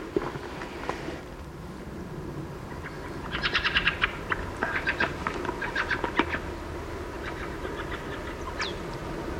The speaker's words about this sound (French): Ah, un cri de grive.